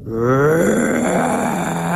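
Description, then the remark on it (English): A person vocally imitates an elephant's roar that came out of a forest: one long, loud, groaning bellow with rough harmonics, rising at first, then sustained and slowly falling, with no other talk. “And in that silence, out of the forest to my right, came this roar. I have never, ever, I didn't even know that elephants could make this sound.”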